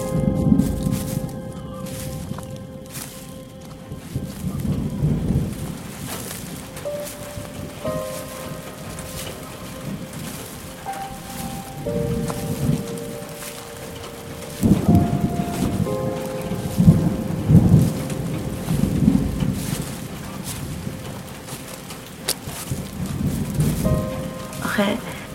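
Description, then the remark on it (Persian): Steady autumn rain pours down onto city sidewalks and streets, a continuous wash of drops with low rumbling swells underneath, like thunder rolling in during a storm. “اصلا راحت بگم، صدای خشخش برگای درختا، صدای پاییز داره تو گوشه کنارای شهر به جون پیاده رو آب و خیابونا میافته.”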